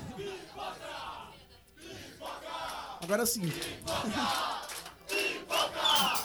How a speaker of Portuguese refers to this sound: Daqui a pouco, vocês vão ganhar pipoca. É mentira, só pra sair vocês gritando na gravação.